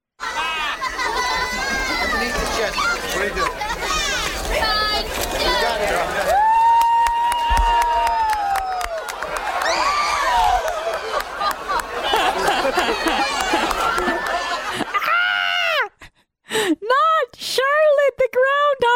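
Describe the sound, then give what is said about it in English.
A crowd screams in horror as Bill de Blasio drops the groundhog in 2014, shrieking and wailing together in a loud, continuous mass of high, wavering screams, then breaking into a few separate piercing cries with short gaps between them near the end. “Because the screams of horror really do add a lot of layers to this sound cut.”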